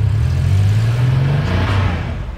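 The rear engine of a Signal Red 1985 Porsche 911 convertible revs loudly, a deep steady growl that climbs slightly in pitch and then eases off, with no voices over it.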